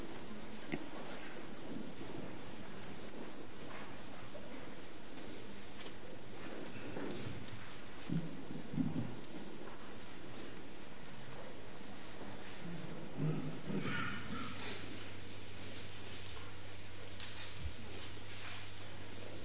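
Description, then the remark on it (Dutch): Pages of books rustle continuously as people search for Titus 2, verses 11 to 14, a dense, steady crackling swish much like light rain, with occasional louder flurries and faint low thumps, and no one speaking. “Lastig te vinden hoor ik aan het ritselen van de blaadjes.”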